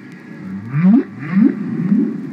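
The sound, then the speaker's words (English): Three rising, moaning whale song calls sweep upward in sequence, each swelling and fading, with a low rumbling hiss of ocean beneath. No one speaks. “I decided that I wanted to make a record almost at once. I just thought, the world has to hear this.”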